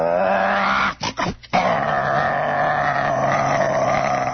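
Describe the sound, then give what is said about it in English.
A voice mimics an old car engine roaring as the car pulls away when a traffic light changes: a loud, rough, continuous growl, with a brief sputtering break near the start before the rumble resumes steadily. “And it's just roaring and shaking.”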